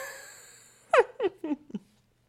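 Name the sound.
heavy panting breath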